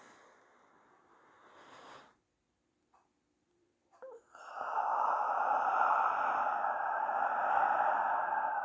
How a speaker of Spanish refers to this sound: Practica la respiración lenta, profunda y consciente. Mientras más la practiques, más vas a relajar tu cerebro y tu mente y va a desaparecer poco a poco la adrenalina de tu cuerpo.